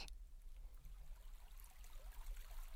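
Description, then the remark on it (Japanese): A babbling brook flows steadily, its soft continuous gurgle and trickle filling the scene at a gentle, even level with no voices present. “ここは小川。川のせせらぎと鳥たちの声が先輩を癒してくれます。”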